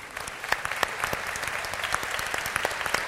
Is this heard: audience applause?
yes